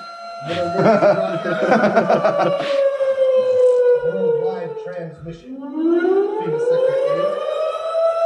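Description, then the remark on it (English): A loud siren sound effect opening the Intel Scanner Hour wails, its pitch sliding slowly down and then sweeping back up, with a voice briefly audible beneath it near the start. “You know the shit's going down when the siren starts, and it's the Intel Scanner Hour.”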